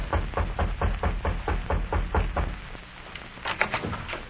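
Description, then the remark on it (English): A steady series of about ten firm raps on the wooden door of a little house in the frontier town of Pierre, Dakota Territory, as a man knocks, evenly paced, followed by a brief pause and a few softer knocks, over a faint background hiss. “A man walked briskly up the steps of a little house in the frontier town of Pierre in the Dakota Territory and rapped on the door.”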